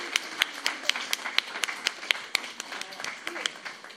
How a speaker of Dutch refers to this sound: Een groot applaus voor deze kleine reizigers en hun begeleiders.